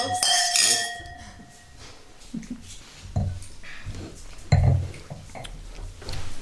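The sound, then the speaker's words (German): Wine glasses of Schilcher clink together in a toast at the start, leaving a bright ringing tone that fades over a second or so, followed by quiet murmuring voices and faint table clatter. “Jetzt haben wir unseren Wein eingeschenkt. 3 Glasel, 4 Glasel.”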